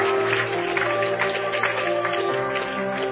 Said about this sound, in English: Okay, turn around, guys. Развернитесь, ребята. Come on, let's give Jesus a hand clap. Давайте воздадим хвалу Иисусу.